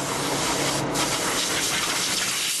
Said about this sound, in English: Compressed air in a paint booth, blowing away a few years' dust as the refreshed computer gets close to shipment.